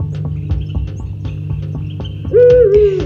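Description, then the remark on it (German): A low, steady hum with faint ticking runs until a single loud, drawn-out hoot of a hooting owl on a winter night, from very far away, rises near the end, holding a mellow pitch that wavers slightly before fading. “In Winternächten und auch oft an Wintertagen drang der hilflose, einsame Schrei einer Heuleule aus unendlicher Ferne melodisch zu mir herüber.”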